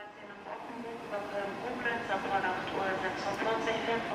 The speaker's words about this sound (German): Am frühen Morgen um kurz nach 8 warten nur 3 Dutzend Pendler auf Gleis 13. Dann rollt ein Regionalzug aus Niedersachsen in den Hauptbahnhof ein. Die Türen öffnen sich, die Passagiere strömen heraus, füllen den gesamten Bahnsteig.